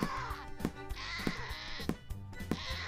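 A goat bleats in a steady series of loud, wavering cries, with sharp thumps recurring about every half second between calls, with no talking.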